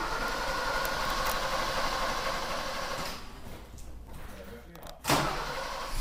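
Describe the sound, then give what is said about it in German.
The motor of a TSFGW Spritzen- und Gerätewagen fire engine labours to start in the cold, churning with a rough, steady rattling drone that sags for a moment before surging back loudly. “Und auch dem TSFGW Spritzen- und Gerätewagen macht die Kälte zu schaffen.”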